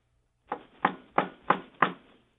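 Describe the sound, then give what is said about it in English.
Five firm knocks from inside a coffin on a hollow wooden surface, evenly spaced about a third of a second apart, each a dull thud with a short fading tail, heard alone with no talking. “Knock for each day you've been in there.”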